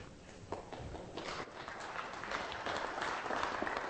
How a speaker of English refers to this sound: I'm very glad that y'all clapped beforehand, because probably afterhand you won't.